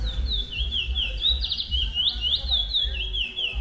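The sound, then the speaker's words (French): A small songbird, a picolette, chirps in a quick, steady series of bright rising-and-falling notes, repeated about a dozen times, clear over a low background rumble. “Il y a deux sons chez la picolette. Il y a le tri.”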